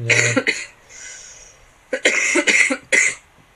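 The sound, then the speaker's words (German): A loud fit of coughing: two harsh coughs, a brief wheezy breath, then a rapid burst of three or four more raspy coughs. No talking. “Der Husten ist wirklich immer noch da.”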